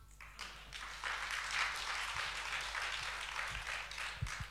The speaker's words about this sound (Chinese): 感谢各位掌声鼓励啊！